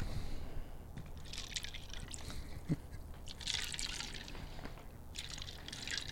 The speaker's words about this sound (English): Oh. There we go. Opening the bottle.